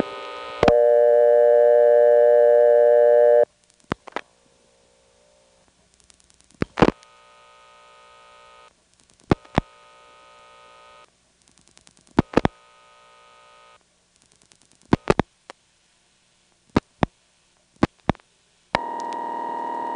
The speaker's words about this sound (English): I'm also going to call this one on the callback circuit. It doesn't answer, so I'll dial a couple of extra digits and superimpose the busy signal on top of the ring.